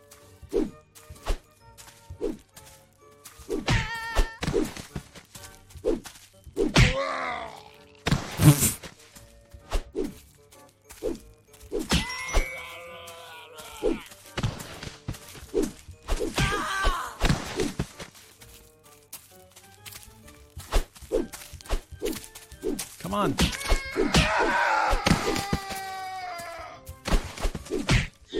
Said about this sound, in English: These screams.